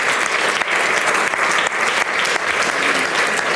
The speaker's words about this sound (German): Ich würde sagen, Ihnen geben wir einen herzlichen Applaus.